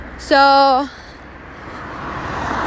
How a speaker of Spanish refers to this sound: Pues, bueno, ahorita les platico cuando no haya coches, porque siento como que no me escuchan.